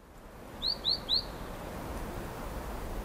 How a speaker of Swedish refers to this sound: Ödsligt tyst. Bara fåglar som trotsar vårkylan flyger fritt över taggtråd och stängsel.